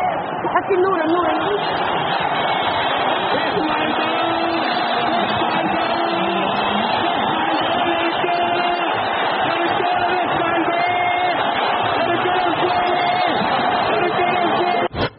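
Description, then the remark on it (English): A huge crowd in the streets and a square in Egypt roars continuously, celebrating Hosni Mubarak's fall from power, a dense wall of cheering and shouting voices that stays loud and steady the whole time, with individual cries blurring into the mass. “Listen to that crowd. That's what they've been waiting for.”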